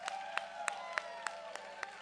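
A church audience claps hands for a pastor in a steady, even rhythm, about seven sharp claps in two seconds, over a sustained, humming musical tone with no talking.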